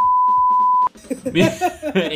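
A steady, pure censor bleep tone runs for just under a second, masking a spoken name beneath it, then cuts off abruptly as louder, lively talking takes over.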